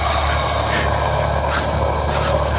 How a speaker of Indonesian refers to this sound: aku mendengar sebuah nafas. Nafas yang berat. Dan juga suara geraman menyeramkan.